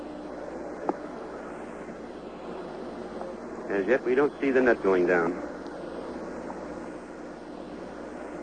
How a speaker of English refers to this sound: Recovery helicopter has begun its run to pick up the first astronaut.